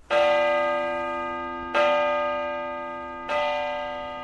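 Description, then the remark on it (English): Patrick, the largest of 13 bells in a Catholic church tower, tolls three times at a slow, steady pace, each strike ringing out with rich overtones that hum and fade before the next. No voices. “Which bell was that? It was Patrick. He's the largest bell.”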